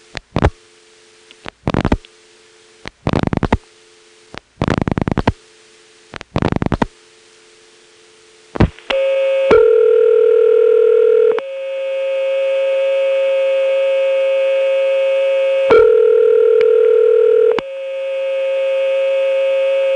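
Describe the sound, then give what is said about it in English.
A rotary phone call to the Panola Road office: dialing clicks in several quick bursts over a low electrical hum, then a loud, buzzy line in a number 5 crossbar where a warbling pseudo-modern ringback tone sounds twice, each ring about two seconds long, with no talking. “This goes to a very hummy line in a number 5 crossbar with a pseudo-modern ringtone.”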